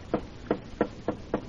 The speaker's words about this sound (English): Here's the boss's office. Go ahead, knock, dear.